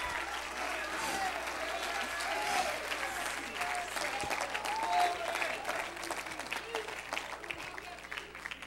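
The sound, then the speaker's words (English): A large audience claps steadily and shouts, a dense, continuous wash of applause and raised voices that stays loud and full throughout. “Oh, come on, let's shout in this house tonight. Somebody clap your hands to heaven.”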